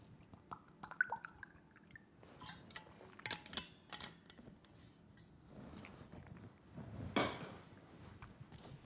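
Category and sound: food or drink, drinking water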